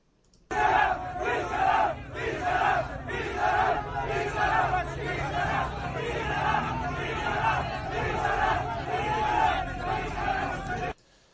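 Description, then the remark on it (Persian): A large crowd of striking truck drivers and their families shouts together at strikebreakers in dense, overlapping voices, loud and continuous for about ten seconds with rhythmic surges of yelling over a steady low rumble. “و بعد یه ویدیو دیگه هست، برخورد کامیونداران با، یعنی عنوانش بود برخورد کامیونداران با اعتصاب شکن. این رو هم با هم ببینیم، اینو با صدا میذارم.”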